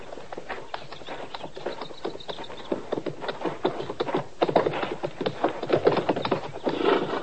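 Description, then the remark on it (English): Horses' hooves clip-clop steadily on hard ground, a dense run of overlapping hoofbeats from more than one animal, moderately loud, with no talking. “All right, Chester, you can bring the horses out now.”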